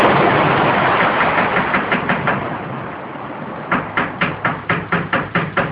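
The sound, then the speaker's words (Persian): Rapid knocking on a door on a cold night over a steady rush of heavy rain in a thunderstorm: a softer run of raps fades out, then a louder burst of about nine evenly spaced knocks follows. “تو این بایندگی چیه که در میزنه؟”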